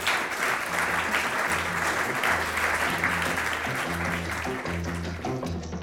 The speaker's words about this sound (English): Let's give them a round for getting through that lightning round.